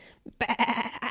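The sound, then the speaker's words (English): A person imitates a sheep's bleat, a loud, nasal, wavering "baa" held for about a second after a brief soft sound. “Sheep.”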